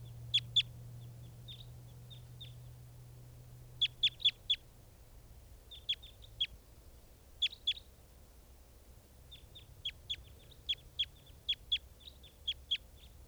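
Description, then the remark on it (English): Birds caught in a mist net call in bursts of sharp, high chirps, several quick notes at a time with short pauses between, as the flock takes off leaving some birds in the net, over a steady low hum and no talking. “And the flock is taking off, leaving some birds in the net.”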